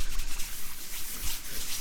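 Continuous wet scrubbing as soapy hands wash a face with soap and very cold water, a steady hissy friction with slight rhythmic swells and no voices.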